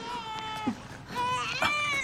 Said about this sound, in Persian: گریه نکن. باشه باشه